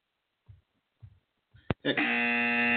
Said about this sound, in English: I couldn't even get the buzzer to work this morning.